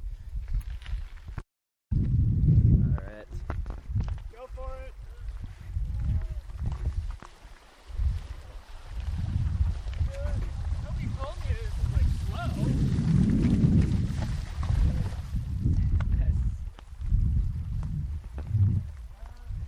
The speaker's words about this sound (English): Was the first water crossing of the Oregon Outback. It's about, I don't know, 10 yards, 30 feet. Here comes another guy. Deepest point is probably a foot.